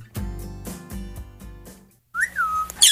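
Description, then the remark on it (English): A parrot named Fred whistles a single bright, gliding note that rises and then slowly falls, fairly loud, after a few soft rhythmic thumps and a brief silence. “Your parrot is so cute. What's his name?”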